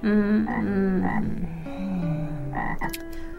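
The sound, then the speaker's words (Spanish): A toad croaks loudly, a run of deep, buzzy, drawn-out calls that shift in pitch and come in quick succession, with no voices. “Y se fue, saltando el sapo.”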